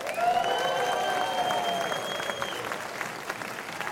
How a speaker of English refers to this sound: If you'd like us to have a seventh year for Keep Christ in Christmas, I want to hear a big round of applause.